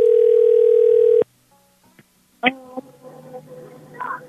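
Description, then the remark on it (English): A loud, steady telephone dial tone hums for just over a second after a phone call is hung up, then cuts off abruptly; after a short near-silence, someone starts talking. “This is a prank phone call. I'm sorry, I'm hanging up now.”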